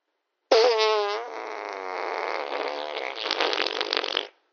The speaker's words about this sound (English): Oh, God. Oh, that guy farted. Oh, that's disgusting.